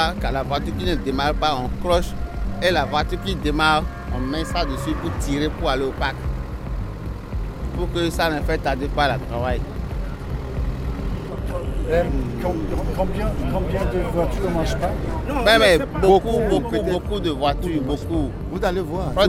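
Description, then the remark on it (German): Many men's voices chatter and call out over one another, steady, with a low engine rumbling underneath throughout: a crowd of dock workers with ropes and metal hooks on their shoulders waiting in the dark at a harbor for a car-transport ship from Antwerp, to unload old used cars. “Und wir waren da nicht alleine, das hört man ja auch.”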